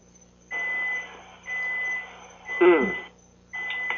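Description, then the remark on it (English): Steady reversing beeps from a vehicle backing up, three long evenly spaced tones with a fourth starting, fairly loud, with a brief muffled voice between beeps. “It almost sounded like, you know, when they put a vehicle in reverse and they go backwards.”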